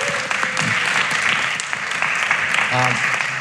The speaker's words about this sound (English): Pleased to say that as of today, we have over 75 pledges submitted for this year's stewardship campaign. So give yourselves all a round of applause.